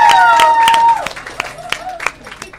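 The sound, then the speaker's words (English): An audience at an evening event hosted by the Lobster in Santa Monica applauds with scattered, uneven claps, while a high whooping cheer glides downward during the first second before the clapping thins out. “Wow, you guys, can we give it a round of applause for our married?”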